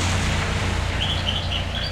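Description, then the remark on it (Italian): A small bird chirps in a quick series of high, light tweets over a steady low rumble of background noise, the calls starting partway through and continuing to the end. “Vedi l'uccellino, cipi cipi.”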